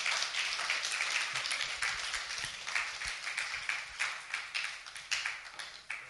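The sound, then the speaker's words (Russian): An audience applauds the Lord together, a dense, steady wash of many hands clapping that carries on for several seconds and starts to thin out and fade near the end. No one speaks over it. “Давайте воздадим Господу аплодисменты.”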